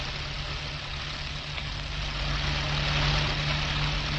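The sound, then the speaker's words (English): Car engines rumble steadily with a deep, throbbing low hum, swelling a little louder midway as a taxi passes with a sand-colored drophead car following it. No one speaks. “Now here comes the messenger's taxi, right behind him.”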